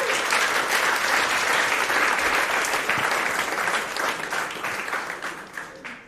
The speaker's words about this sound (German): Deswegen Applaus für Benny und Nele.